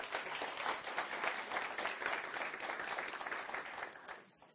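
An audience claps steadily for about four seconds, a dense, even patter of many hands that holds its level before thinning out and fading at the end.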